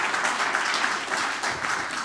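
audience applause

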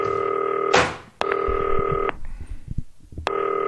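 telephone ringing

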